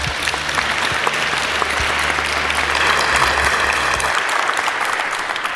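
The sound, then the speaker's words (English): An audience applauds the speakers of a talk, clapping steadily for several seconds, a dense, loud wash of many hands with no voices on top, holding an even level throughout. “So please give them a big round of applause for this talk.”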